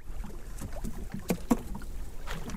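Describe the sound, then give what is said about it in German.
A small boat comes in to dock in the bay of Uida, in a lagoon in Mexico. A steady wind and a low rumble continue, with a couple of hollow knocks against the hull. No one speaks. “Wer mit dem Boot in der Bucht von Uida anlegt, dem fallen die riesigen Buchstaben an der Häuserwand sofort ins Auge.”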